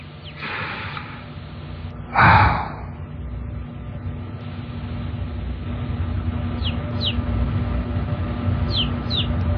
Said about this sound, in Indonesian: Suara anak ayam itu terdengar jauh. Suara itu terdengar cukup menggangguku. Ya, aku tahu. Ketika ada suara anak ayam, katanya ada kuntilanak.